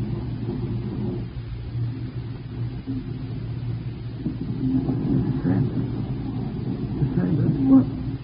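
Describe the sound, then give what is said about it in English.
A car engine rumbles low and steady, growing a little louder toward the end as the vehicle pulls up, with faint indistinct voices mixed into the drone. “Get in the car quick.”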